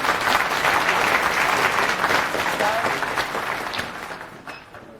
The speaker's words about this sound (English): Please give an applause.